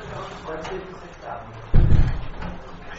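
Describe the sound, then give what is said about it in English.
A door is shut with a single solid thud partway through, fairly loud, its low boom fading quickly into the murmur of people talking. “Close the door, close the door.”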